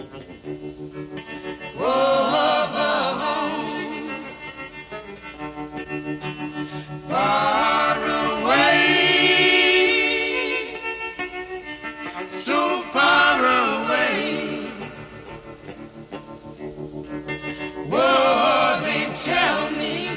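A gospel electric guitar rings out, pushed through a wavering, eerie reverb, weaving through sustained family vocal harmonies with a dark Delta blues feel rather than chunking out chords, in a steady, moderately loud performance with swelling phrases.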